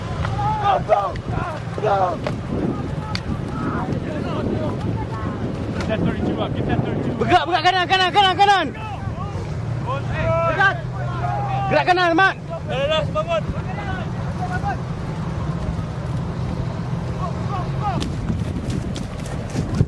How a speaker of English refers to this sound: Lines of AAVs already fill the bay, churning through choppy water. As the first troop carriers reach the sand, attack helicopters escort them from above.